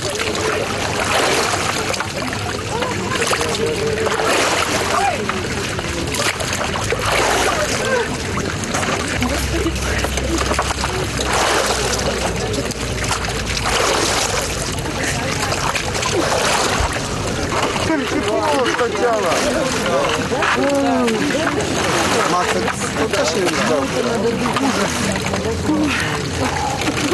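People splash and plunge again and again into an icy consecrated font, with sloshing and pouring sounds, while a crowd chatters steadily.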